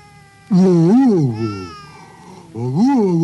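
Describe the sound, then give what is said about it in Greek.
A person imitates a wolf growl with loud, drawn-out wavering vocal sounds to coax a baby into eating: one long rising-and-falling call, a brief pause, then a second shorter call. “Κάντε του λίγο το λύκο για να φάει.”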